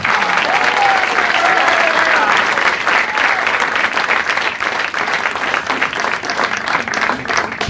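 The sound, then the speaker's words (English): A large crowd applauds loudly and steadily as a performer is introduced, dense clapping filling the whole stretch with a few faint cheers and whistles mixed in, holding strong throughout. “Big round of applause for Mr. Bert Kreischer.”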